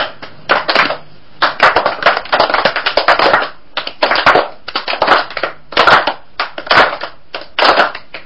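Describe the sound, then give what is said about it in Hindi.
A group claps hands, following a leader's claps, in short rhythmic bursts, several quick, sharp claps at a time separated by brief pauses, loud and crisp, with no talking. “हम शुरू करें उससे पहले हम सब ताली बजाएंगे, पहले मैं बजाऊंगा फिर आप बजाएंगे, मेरे पीछे पीछे ताली बजाएंगे, ठीक है?”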